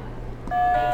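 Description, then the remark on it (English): A game buzzer button is pressed partway through, sounding a bright sustained electronic tone with harmonics that switches on abruptly and holds steady to the end, loud over a low background hum. “Do you want to try a buzzer?”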